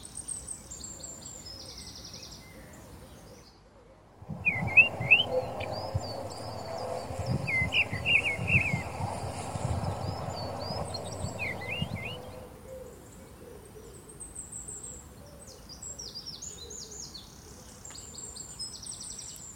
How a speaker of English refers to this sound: Birdsong sent in by listeners of RNIB Connect Radio.